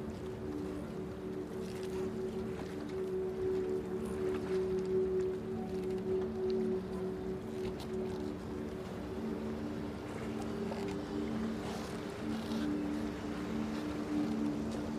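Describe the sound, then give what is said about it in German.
Harbour ambience with large and small boats: a steady, droning boat engine hum that runs unbroken throughout, layered over soft washing water and breezy background noise at a moderate, even level. “Schau dich einmal um. Da sind große Boote und kleine Boote.”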